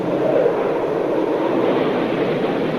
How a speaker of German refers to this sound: Und so beschrieb ein Channel 9 Reporter den Abflug einer Concorde im Jahre 1985 von Sydney. She received the all clear and huge jets roaring bulleted down the runway.